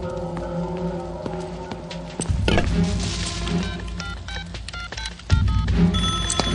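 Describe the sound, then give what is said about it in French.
A telephone is dialed to call the fire brigade about a burning house, then rings, its bell tones and clicking keypresses layered over a busy, clattering background, with louder bursts near the middle and end. “Ah, excusez-moi, il faut que je téléphone.”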